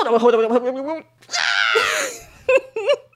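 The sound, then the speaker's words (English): A voice mimics a girl's feeble, badly acted movie scream: a wavering moan rises into a strained, high, breathy shriek about a second long, followed by short clipped vocal bursts, fairly loud. “A girl screams, and it is the worst acting I've ever seen.”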